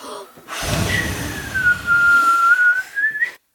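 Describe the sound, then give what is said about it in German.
A whirlwind sound effect for the wolf's storm blowing at the pigs' wooden house in a telling of the Three Little Pigs: a steady whistling tone slides downward, holds, then rises again, over a loud rushing, breathy gust of wind noise lasting about three seconds. “Der Wolf setzte wieder seinen Wirbelsturm ein.”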